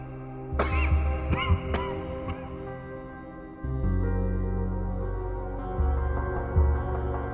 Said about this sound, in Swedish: Skrattet följdes av en hostattack.